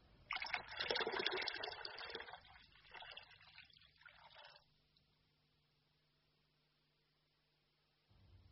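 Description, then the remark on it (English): Water is poured for about four seconds, starting with a strong, splashy gush that thins into a lighter trickle before stopping, followed by near silence and a faint low hum. “More water.”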